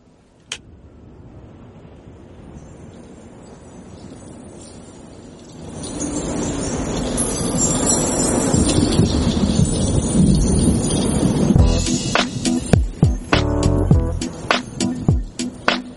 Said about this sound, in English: this is a remix from Need for Speed Underground 2